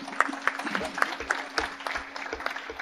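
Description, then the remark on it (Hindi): An audience applauds with steady, dense clapping for a few seconds as people are invited up for a lamp-lighting ceremony, moderately loud, with a faint voice and a low hum underneath. “जोरदार तालियां बजाकर.”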